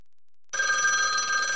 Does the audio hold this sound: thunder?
no